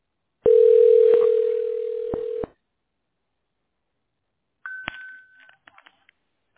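A telephone ringing tone, heard while a caller is being put through to another person, sounds once, a steady, fairly loud hum lasting about two seconds, then silence, followed by a short higher beep and a few faint clicks as the line connects.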